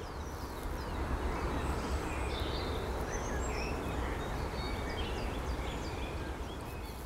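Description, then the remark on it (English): Birds sing and chirp outdoors over a steady wash of ambient background noise, with several short, bright calls scattered throughout. “And I hope, like me, you do feel that things are just starting to improve and life will be restored, even if changed, because it goes on, as you can hear from the birds.”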